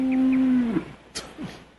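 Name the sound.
cow mooing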